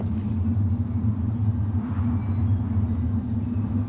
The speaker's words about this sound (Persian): طوفان است. باید در جای پناه بگیریم.